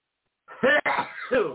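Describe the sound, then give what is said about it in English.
A loud sneeze on its own, a breathy build-up snapping into a sharp burst, then a brief catch and a second voiced, trailing burst, lasting about a second. “Bless you. It just came out of the blue.”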